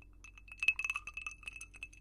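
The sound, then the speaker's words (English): Ice cubes clink against the sides of a glass of red wine in a quick, uneven flurry of small bright taps, fairly quiet, as if the glass is being swirled. No one speaks. “And yes, I put ice in my red wine.”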